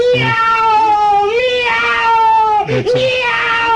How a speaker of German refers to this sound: Miau!